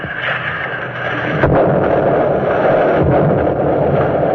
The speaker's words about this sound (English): The charges explode at their set depths, and the DE bounces on the waters upheaved from below. The men cling to railings and stanchions until the spray off the fantail has fallen, and the sea slowly recovers from the shock of explosions underwater.